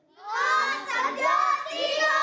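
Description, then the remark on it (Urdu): A group of children shout loudly together as a program begins, in high, overlapping voices, a sustained burst of excited yelling lasting a couple of seconds with no pauses. “Programme آپ دیکھ رہے ہیں، ہم بہت زور سے بول رہے ہیں، ہمارا گلا خراب ہو جائے گا.”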